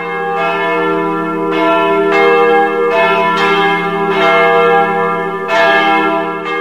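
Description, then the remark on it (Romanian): Church bells of the Brâncoveanu monastery ring out in a steady, repeated peal, each strike blooming into a rich, lingering hum that overlaps the next. Loud, with no voices. “Am îndrăgit sunetul clopotelor mănăstirii Brâncoveanu, așa cum alții au îndrăgit sunetele clopotelor de la Putna.”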